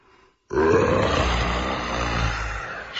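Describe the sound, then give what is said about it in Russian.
A lion yawning widely: one long, loud, low groaning roar that swells and then slowly fades over a couple of seconds, heard on its own after a moment of quiet. “В тот же миг в дальнем конце замка златогривый лев пошатнулся и широко зевнул, оскалив острые зубы.”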